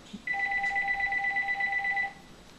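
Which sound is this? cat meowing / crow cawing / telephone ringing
telephone ringing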